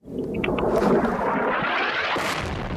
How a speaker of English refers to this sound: Here's just one clip of the explosions from Russia today.